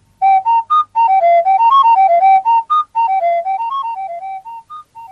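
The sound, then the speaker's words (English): Hollow, flute-like whistling from blowing across a small bottle, sounding as a quick run of about twenty distinct notes that step up and down in pitch, loud at first and gradually softening toward the end. “This was made by blowing across the top of a small bottle.”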